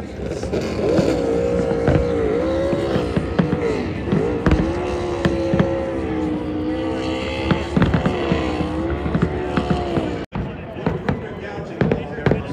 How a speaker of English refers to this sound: And your 2024 champion. Is taking a victory lap right now. He's just running it right over the Daytona sign, right through the grass, doing some spins.